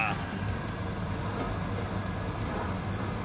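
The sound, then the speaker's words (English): A washing machine on its spin cycle gives off a series of short, high-pitched squeaks at an uneven rhythm, riding over a steady low mechanical rumble. “Oh, yours has got a nice little squeak to it.”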